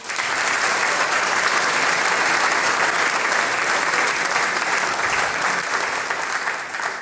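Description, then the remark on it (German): A large audience at the Klingende Steiermark show claps steadily for about seven seconds for the day's harmonica candidate, Moritz Gruber, a dense, even wash of hands with no breaks or swells and no voices on top. “Applaus für den heutigen Harmonikakandidaten, für den Moritz Gruber.”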